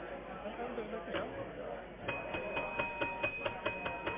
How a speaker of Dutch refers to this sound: een belletje. Ja.